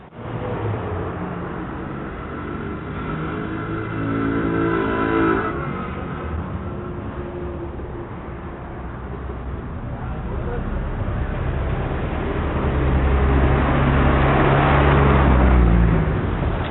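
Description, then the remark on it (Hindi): A car engine drones steadily throughout, its pitch climbing and dropping as it revs and accelerates, growing louder and rougher toward the end. “Please जरा गाड़ी side लगाना।”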